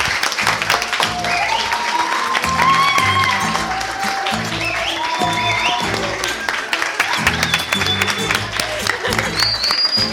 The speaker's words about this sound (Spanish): Les agradezco mucho. A ver si dan un aplauso gigantesco para irnos.